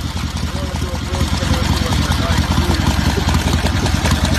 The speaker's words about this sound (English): Right, that was him trying to describe his motorcycle, but didn't realize that his motorcycle was louder than his voice was.